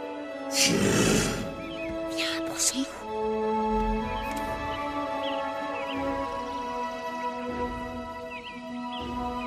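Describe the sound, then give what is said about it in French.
A red deer stag bellows with a deep, drawn-out roar that opens in a loud, raspy burst and then carries on as a lower, sustained groaning call. “Hé, regarde! C'est un cerf.”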